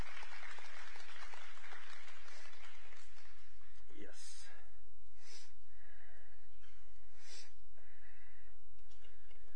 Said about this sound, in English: Y'all come give a big round of applause. Come on up today. Come on up. Big old round of applause. Come on. Y'all clap for tithes and offerings today. Come on up.